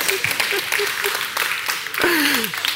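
An audience breaks into steady, dense applause lasting about three seconds, with a few short vocal whoops or calls rising through the clapping and a brief swell near the end.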